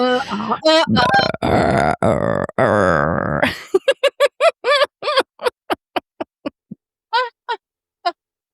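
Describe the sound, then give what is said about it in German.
A voice imitates a frog croak: a long, raspy, strained drone for about three seconds, then a string of short guttural croaks in an uneven rhythm that thins out toward the end. “Bei mir klingt es wie ein. So schön. Frosch.”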